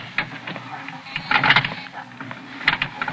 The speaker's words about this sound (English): And the motor clicked and the door strained, but stayed open. The elevator didn't go anywhere.